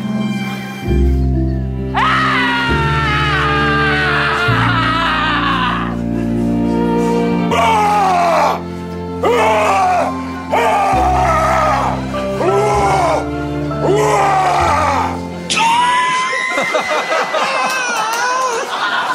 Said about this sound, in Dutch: En hij denkt, ja, als je iets dwars zit, reageer dan als volgt. Wil je naar me luisteren als ik gil? Ja?